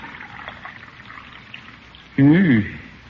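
Coffee is poured into a cup: a soft, steady trickle, then a brief louder splash near the end whose pitch rises as the cup fills.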